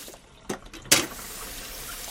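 Dishes being washed under running water by a daughter at home: a couple of sharp clinks and splashes, followed by a steady, hissing stream from the tap that continues to the end.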